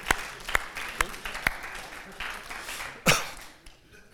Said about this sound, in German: Applaus. Danke.